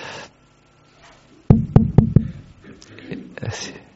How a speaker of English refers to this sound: So he went out, and after some time, the wife heard a knocking at the door.